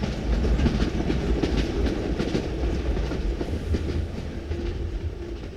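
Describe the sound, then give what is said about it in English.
At night, a southbound train roars by a siding track at full speed, a loud, steady low rumble layered with rapid, rhythmic clattering of wheels on the rails, holding strong throughout with no voices. “on this particular night, everything seemed to be going as planned, and the southernbound train was in sight less than 5 minutes after the first had switched tracks, eventually roaring by the siding track at full speed, seemingly without any issue.”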